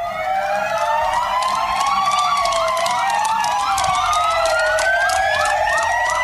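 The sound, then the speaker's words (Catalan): Several emergency vehicle sirens of the Sant Feliu de Guíxols security forces wail at once in tribute to health workers of the municipal primary care centre, a sound heard daily at 8 pm since the state of alarm was declared; their rising and falling tones overlap into a loud, continuous chorus swooping between high and mid pitches. “Cada dia a les 8 del vespre i des que es va decretar l'estat d'alarma ens hem acostumat a aquest so.”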